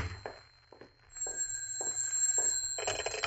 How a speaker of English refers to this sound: Oh, and there's my phone. Now what?